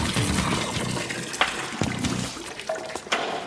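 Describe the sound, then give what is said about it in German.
Water runs steadily into a small plastic water pistol that already has salt in it, making salt water, with gurgling and trickling plus a few sharp clicks and splashes. No one speaks. “Mit einer Wasserpistole? Ich habe auf dem Zimmer schon Salz reingepackt.”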